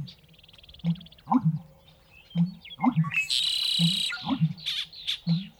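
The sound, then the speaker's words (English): A spring chorus in the Carmen Valley, east of the Sierra Nevada in central California: red-winged blackbirds, western meadowlarks and American bitterns, males staking out territories and attracting mates, with bright chirps and whistles over a steady, repeating low pulsing call and a loud buzzy trill partway through. “Red-winged blackbirds, western meadowlarks, and American bitterns. The males of more than a dozen species are staking out their territories and attracting mates.”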